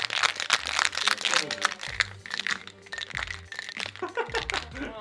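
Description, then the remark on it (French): Ice cubes rattle and clatter inside a cocktail shaker, shaken to chill the cocktail, in a dense, rapid stream of sharp clinks, shaken steadily for several seconds and slowed at the end so the ice does not break, with a low murmur underneath. “Maintenant je vais rechecker, mais cette fois-ci avec les glaçons, afin de rafraîchir le cocktail.”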